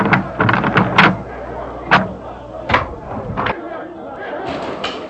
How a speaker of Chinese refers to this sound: 你去开门，听听耶路撒冷城那种吵闹声。